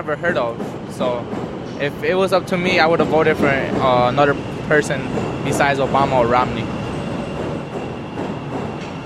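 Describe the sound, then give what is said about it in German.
Trains rumble past one after another in a steady wash of rail noise, with wheels clattering, while indistinct voices murmur throughout. “Zug um Zug fährt vorbei.”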